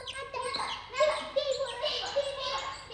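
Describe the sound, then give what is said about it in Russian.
High, squeaky chirping and squabbling like sparrows, fairly loud, in quick overlapping bursts. It sounds as if a voice is imitating the birds rather than real sparrows. “Вот что кричали воробьи.”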